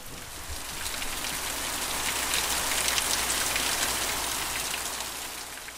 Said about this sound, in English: Even though it is hurricane season as I visit, thankfully the rain that starts to fall soon after I arrive is just a short downpour.